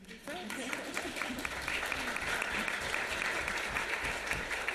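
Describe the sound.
Sustained audience applause, a dense steady patter of many hands clapping at an even loudness throughout, with a faint voice briefly audible at the start.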